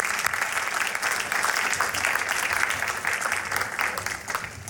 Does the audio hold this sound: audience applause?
yes